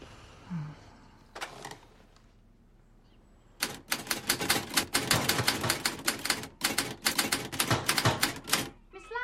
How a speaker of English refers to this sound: She shakes her typewriter and moves her lips.